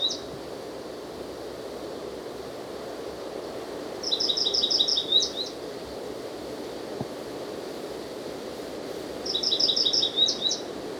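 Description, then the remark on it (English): A wild bird, out of sight about 30 or 40 feet up in a patch of pine or an adjacent evergreen oak, sings two short, high-pitched phrases of rapid repeated notes ending in a quick flourish, separated by a pause, over a steady rushing background hiss. “I can't see the bird.”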